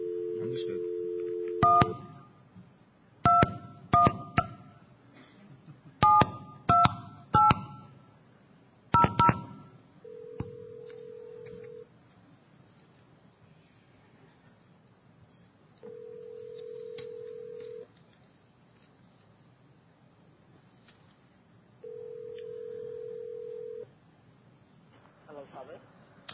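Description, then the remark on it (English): A plain old regular telephone gives a steady dial tone that cuts off into a quick series of paired touch-tone dialing beeps, followed by a long ringing tone that repeats three times with pauses between. “Regular, it's a plain old telephone. I'm going to pick this up. Hopefully it won't be a horrible noise.”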